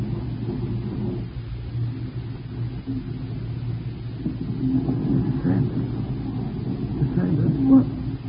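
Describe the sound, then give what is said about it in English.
A car engine rumbles low and steady, swelling a little louder toward the end as the vehicle rolls up, with a muffled, boxy background hum. “Get in the car quick.”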